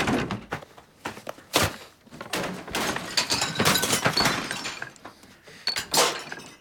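Loud crashes as props from a play and furniture are smashed out in a garden: a rapid, irregular series of heavy thumps, splintering breaks and clattering debris with brief gaps between blows, and no voices. Curtains are torn down and furniture overturned.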